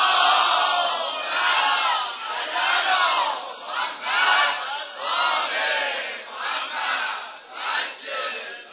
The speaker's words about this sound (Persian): صلوات فرست بلند و لال نمیران ان شاء الله.